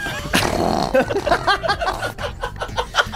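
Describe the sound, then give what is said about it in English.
A short, loud fart sound effect bursts out near the start, followed by several seconds of chuckling and snickering laughter from voices. “we've really started playing fart sound effects during the podcast.”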